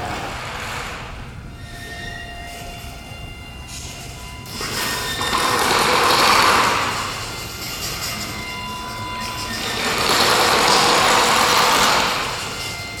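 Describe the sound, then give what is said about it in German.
Motors (actuators) of a kinetic art installation, connected over WLAN to controller modules and controlled by the artist's brain, whir and hum steadily, with a thin whine running through. The whirring swells into two louder surges, each rising and fading over a few seconds, with no talking. “Meine Diplomarbeit besteht aus verschiedenen Motoren, sogenannten Akkutatoren, die ich angeschlossen habe über WLAN mit verschiedenen Controller-Modulen in ein zentrales Kommunikationssystem.”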